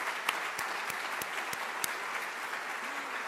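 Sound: audience applause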